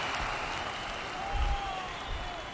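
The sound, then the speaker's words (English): A sustained wave of crowd applause as a tamer steps forward into a pit, a dense, steady patter of many hands clapping, with a low rumble of crowd noise swelling briefly midway. “There's another wave of applause.”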